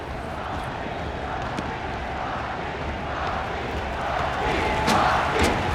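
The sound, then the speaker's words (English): A dense arena crowd murmurs and buzzes continuously as the lights go out, the noise swelling steadily louder toward a roar, with a few sharp cries and whistles cutting through near the end. “The buzz is building toward a roaring crescendo.”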